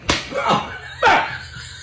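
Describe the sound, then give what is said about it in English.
Two loud, sharp slaps to the face about a second apart in a rock, paper, scissors slapping game played with water in the mouth, each a crisp smack, with short vocal grunts and reactions around them. “You'd have to hit someone pretty hard to knock water out of their mouth”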